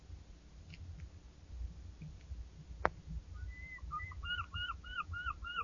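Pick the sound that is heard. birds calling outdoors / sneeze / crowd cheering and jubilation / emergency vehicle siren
birds calling outdoors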